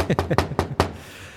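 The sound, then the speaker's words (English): A quick series of about five firm knocks on a front door, fairly loud, in an uneven rhythm, then quiet with only faint room tone. “Who was at the door?”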